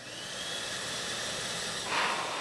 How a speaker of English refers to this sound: It's a hand dryer. It's made by XL Dryer of East Longmeadow, Massachusetts